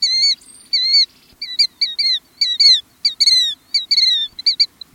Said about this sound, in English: That's a killdeer, one of the most widespread and commonly seen shorebirds in North America. Listen again, and you may hear why this bird has also been called the chattering plover and the noisy plover.